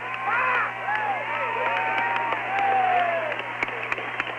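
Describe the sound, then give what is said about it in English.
A crowd in Minnesota cheers and whoops steadily in lousy weather as President Gorbachev's motorcade and a limo approach, many voices rising and falling together, with scattered sharp handclaps breaking through near the end. A low, constant hum runs underneath. “Cheering and clapping as the motorcade approaches there.”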